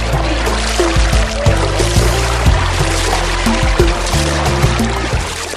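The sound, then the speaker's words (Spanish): Water splashes and sloshes steadily, a loud, continuous churning with small irregular bursts, as two friends bathe in an oasis. No one speaks. “Aprovechemos y bañémonos para quitarnos este calor de encima.”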